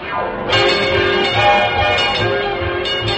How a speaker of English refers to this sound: Clang, clang, clang went the trolley. Ding, ding, ding went the bell.